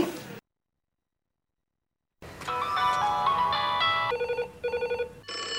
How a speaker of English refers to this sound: Mm-hmm. Must be the telephone. Ring-a-ling-a-ling-a-ling-a-ling.